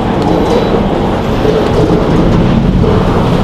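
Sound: thunder rumbling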